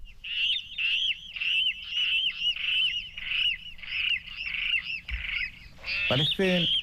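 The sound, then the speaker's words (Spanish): A water rail gives a long run of loud, squealing, pig-like calls in quick succession, ending in a harsher burst of grunting squeals, with faint low rumble behind. “Sí, parece un cerrito pequeño, parece algún animal que está muriendo ahí, que le está pasando algo, sí, ¿no? Sí, sí. Y pues este es un rascón.”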